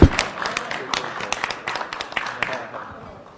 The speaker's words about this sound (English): The end. I will applaud it too.